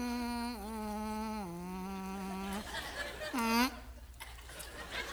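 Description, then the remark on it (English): A person hums a steady, nasal buzz imitating a bee for a couple of seconds, wavering slightly in pitch, then adds a short rising-and-falling buzz before trailing off into faint breathy sounds. “No more buzzing.”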